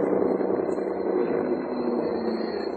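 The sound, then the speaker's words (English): A Renault car engine idles with a steady, even rumble and hum that holds constant throughout, with no voices and no change in pitch or loudness. “Listen, the car. Yes, it's a Renault.”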